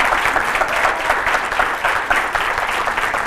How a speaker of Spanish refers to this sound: ¡Un aplauso enorme!